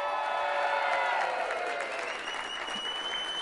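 A crowd claps steadily for a few seconds, a dense, even wash of applause that stays fairly loud throughout, with no voices.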